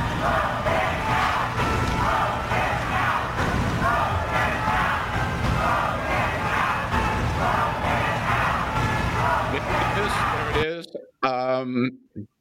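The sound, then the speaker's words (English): A large outdoor crowd at the top of the steps of the Supreme Court, people waiting in line to pay respects to Ruth Bader Ginsburg, chants "vote him out" at the president in loud, steady, repeated bursts for about ten seconds, then the crowd cuts off and a single voice speaks briefly. “The crowd shouting, vote him out, vote him out”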